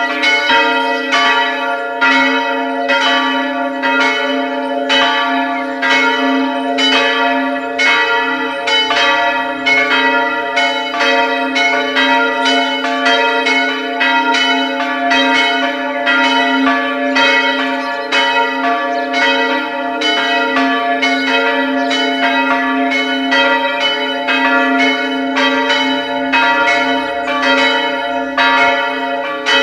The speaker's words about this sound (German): Es ist 12 Uhr. Sie hören die Glocken der Pfarrkirche Aschach an der Donau in Oberösterreich.